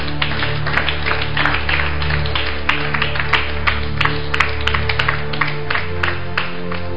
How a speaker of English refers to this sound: Let's clap for that lady. Clap.